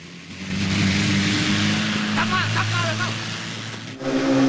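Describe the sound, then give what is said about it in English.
The small engine of Bond's motorized punt roars steadily and surges as he lowers the propeller into the water and races off along a river, a loud continuous drone with rising pitch and a brief throttle shift near the end. “He lowers the propeller into the water and races off.”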